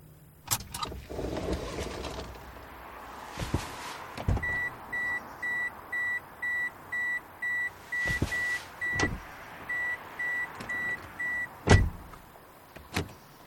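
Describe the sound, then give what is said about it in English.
A car's reversing sensor beeps in a steady, evenly spaced series as the car is parked a few blocks from a mosque, with mechanical clunks, a door thud and low engine rumble around it. “And here I park my car and take a walk to the mosque.”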